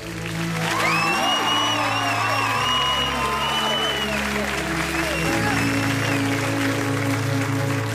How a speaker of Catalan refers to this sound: Aquest aplaudiment és per tots vosaltres.